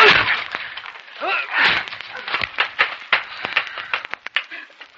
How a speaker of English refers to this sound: Quiet. Listen. Maybe somebody is a prisoner in that room. Try the door. Help me break it down, my friends, please. All together. Now.